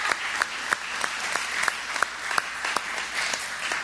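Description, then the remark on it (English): A church audience applauds to welcome back Mr. Alex Poe: many hands clapping in a steady, dense patter, with sharper individual claps popping out every fraction of a second, sustained at moderate loudness throughout. “Alex, if you'd stand up, give Alex a little hand clap.”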